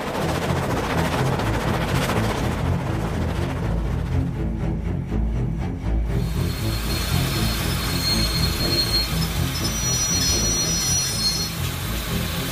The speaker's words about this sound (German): Verdammt, was ist das denn? Scheiße, da steht einer auf den Gleisen. Sofort bremsen!